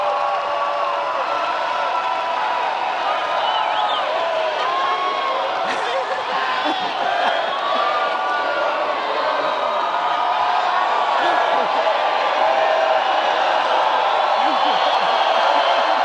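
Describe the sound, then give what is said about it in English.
A large crowd in Dayton, Ohio, sings happy birthday to John McCain on his 72nd birthday, a steady, dense wash of many voices with drifting melodic lines, loud and continuous throughout with scattered cheers mixed in. “The crowd in Dayton, Ohio, singing happy birthday to John McCain.”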